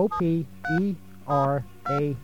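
telephone number being dialed

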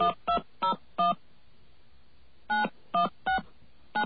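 telephone dialing tones

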